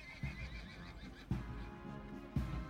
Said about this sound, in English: From the clip-clop of the horses' hooves, to the faint rustle of the summer leaves, to the distant click of cameras, as a small, excitable crowd gathered, unaware that they were trotting into a trap.